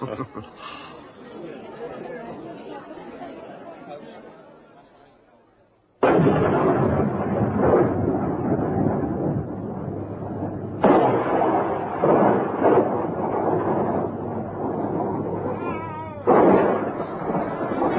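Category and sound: nature, thunder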